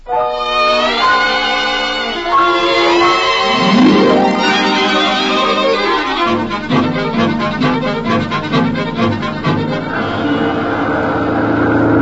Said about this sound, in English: Oh, driver, can't you hurry? Can't you go faster? Going as fast as I can in this traffic, lady.